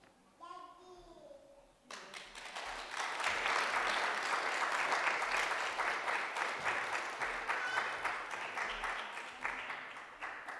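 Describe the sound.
A brief voice is heard at the start, then a church audience breaks into sustained applause to show appreciation after someone came up and shared, many hands clapping together in a dense, steady patter that swells and then gradually thins out.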